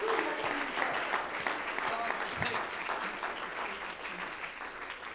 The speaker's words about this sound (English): If you believe that God is about to fix some stuff, why don't you clap your hands? Why don't you shout unto God with a voice of triumph and give him the praise and the glory that he deserves tonight?